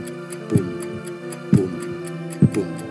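A steady heartbeat pulses about once per second, three low, thudding beats each trailed by a softer second knock, over a faint, sustained humming drone.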